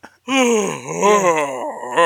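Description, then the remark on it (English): A deep, drawn-out yawn voiced by a man as a video game character's sound effect, rising and sagging in pitch over about two seconds, fairly loud with no other talk. “You went for a deep, manly yawn.”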